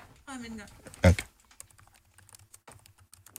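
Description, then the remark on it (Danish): Typing on a computer keyboard, a short burst of sharp key clicks with one loud, heavy thump like a spacebar strike, after a brief voiced sound at the start. “Der burde jo være en form for dæmpning på spacebar, fordi man bruger den med den finger, som har mest energi, sin tommelfinger.”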